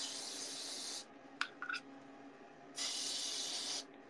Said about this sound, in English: And now to apply my deodorant. I use spray-on deodorant. I use Dove Advanced Care. 1/4 moisturizers with natural oil. Dry spray, go fresh.